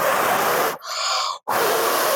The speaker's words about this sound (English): Okay, I have to get their attention. Maybe if I try breathing really hard.